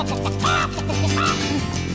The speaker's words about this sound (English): Chicken squawking.